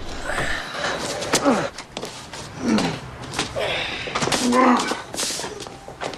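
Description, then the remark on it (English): A car's passenger door clicks open and thuds shut outside, with a few sharp knocks and shuffling, while someone grunts and sighs through the effort. “Outside, Hank opens the passenger side door of the car.”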